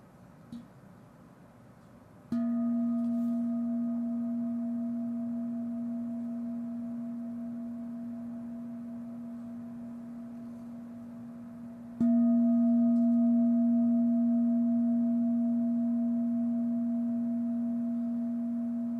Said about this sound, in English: This little bell is called an inkan in Japan, and it's used for movement, but it's also designed to help us not disperse energy. So with this bell, this is a relax your posture bell in the Thich Nhat Hanh tradition.